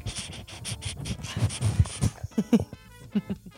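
A dog named Nutmeg pants in quick, rhythmic breaths, then lets out a few short snorts and snuffles. No one speaks.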